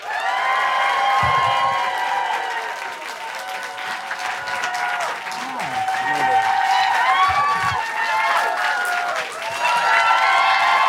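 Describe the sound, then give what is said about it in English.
Loud, sustained applause from a large crowd as Nick Offerman is introduced as a guest, with cheers and whoops rising over the dense clapping throughout, swelling again toward the end. “Put your handsaws together for Nick Offerman.”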